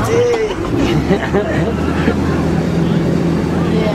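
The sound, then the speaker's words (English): A tour boat's motor drones steadily as the boat enters a dock at the end of a jungle ride, a low continuous rumble that holds for the whole stretch, with a murmur of indistinct voices and splashy noise mixed underneath. “And as we enter this dock, please remain seated with all hands, arms, and elbows all the way inside the boat until we come to a complete stop.”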